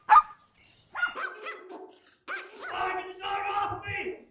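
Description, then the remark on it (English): A chihuahua yaps in a sharp, high-pitched burst, then breaks into longer strings of frantic barking and snarling yelps that grow more continuous toward the end. “I let go of the chihuahua.”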